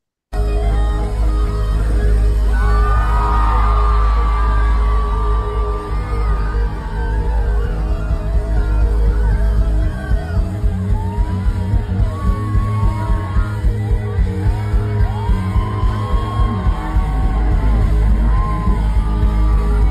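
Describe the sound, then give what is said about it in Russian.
A loud crowd yells and whoops continuously over a dense roar as a man dressed as a shaman jumps into it, with rising shouts standing out; partway through, a steady rhythmic pulsing joins the din, like chanting or clapping. “давайте поглядим о том, как этот самый поддельный шаман прыгает в поддельную толпу.”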